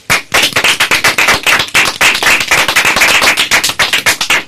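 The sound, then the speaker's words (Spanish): A small group applauding themselves claps together in a dense, steady burst of sharp hand claps that fills the whole moment, with no one speaking over it. “¿Qué os parece si nos damos a nosotros mismos un súper aplauso por haberlo hecho también?”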